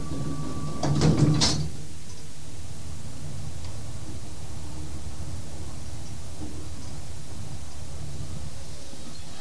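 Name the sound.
elevator doors closing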